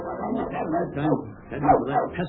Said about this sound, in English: That pesky dog. Oh, well, I'll be. Look at that little dog go after Nemo.